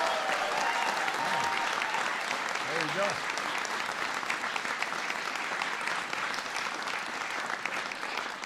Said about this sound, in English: Before I get started, I just want to acknowledge somebody who is working so hard on behalf of America's workers each and every day, our outstanding Secretary of Labor, Tom Perez. So give him a big round of applause.